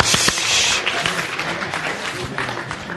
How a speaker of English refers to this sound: Right, big round of applause for Joshua.